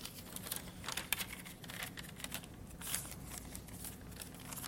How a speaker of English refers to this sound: I'm going to grab a piece of pen here and my paper.